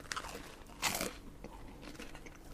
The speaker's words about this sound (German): Es knuspert ja hier.